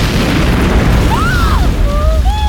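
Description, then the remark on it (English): A flaming cell blown up high in the sky explodes: a loud, sustained explosive roar with deep rumbling that stays heavy for the whole moment, while thin whistling tones glide and sweep above it. “High above, he blew the cell.”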